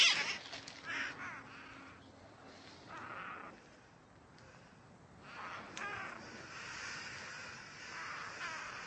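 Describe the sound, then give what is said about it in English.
Chickens give harsh, repeated cawing alarm calls at a hawk in uneven bursts, moderately loud, with no talking over them. “Hear that sound they're making? That caw, caw, caw. That's the sound they make when they see a hawk.”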